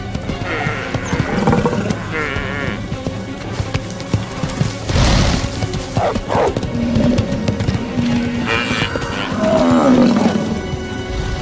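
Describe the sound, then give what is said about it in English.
Wolves snarl and growl in a loud scuffle as they attack a mother and her calf cut off from the herd, harsh bursts of roaring and thrashing rising and falling throughout, with bellowing cries from the prey. “Every attempt to escape provokes a new attack.”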